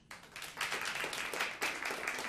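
Older members of an audience break into applause, voting that the world is a better place than it was 20 years ago, a dense, steady wash of many hands clapping at once that stays loud and even for a couple of seconds with no voices over it.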